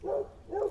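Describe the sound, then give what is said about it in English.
A dog barks twice in quick succession, two short, mid-pitched woofs about half a second apart, moderately loud, with no talking. “Oh, shut up, dog.”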